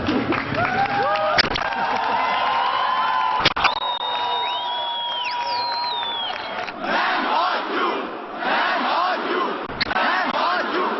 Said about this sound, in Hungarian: 600 diák kiáltotta együtt, hogy nem hagyják bezáratni iskolájukat.